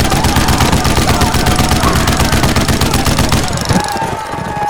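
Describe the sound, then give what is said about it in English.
A hand-cranked gun fires in a loud, fast, continuous rattle of shots for several seconds, then the firing breaks off and a rumbling tail fades out. “Then he started turning the crank.”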